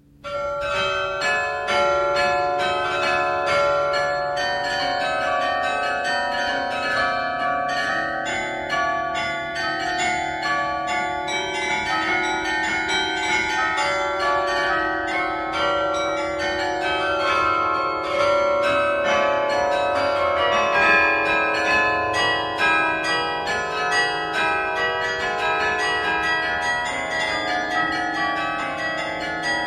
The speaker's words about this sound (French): voici une nouvelle version de cette musique dont il est décidément impossible de se lasser, cette fois jouée par un véritable carillon, celui des 62 cloches du Beffroi de Douai, actionné par Jacques Lannoy, 34e maître carillonneur de la ville.